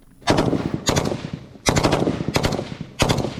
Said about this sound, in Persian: میدان نبرد در نزدیکی بخمود گرم است و تانک های اوکراینی به سوی نیروهای روس شلیک می کنند. بعد از ظهر پنجشنبه سربازانی که پرچم اوکراین روی یونیفرم های پلنگی رنگشان نقش بسته در سنگرهای گلالود زانو زده و تیراندازی می کنند.